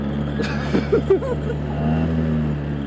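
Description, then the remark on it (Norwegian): A boat motor drones steadily as the boat sets off on a boat trip, its low hum swelling slightly as it revs, with a few brief knocks and faint voice-like sounds early on. “Så stamp den motoren.”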